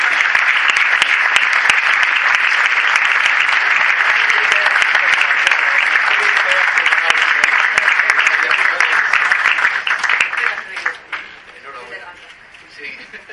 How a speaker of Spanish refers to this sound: Un fuerte aplauso.